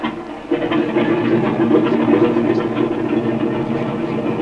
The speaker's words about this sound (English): Oh, by the way, I want to run up the engine again before we take off. Yeah, go ahead. Give her a twist, run her up.